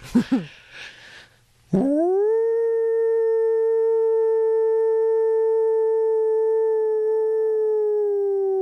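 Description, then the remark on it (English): A person performs a single long, melodious rising and falling howl, with the tongue curled back. It swoops upward, then holds a steady, clear tone for several seconds before dipping slightly at the end. It is loud, preceded by a few brief yips. “And the classic howl is a very melodious rising and falling vocalization.”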